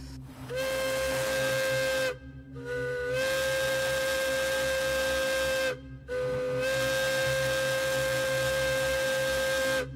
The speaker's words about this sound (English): And finally, this is the Hancock air whistle, in use from the 1930s all the way up into the 90s.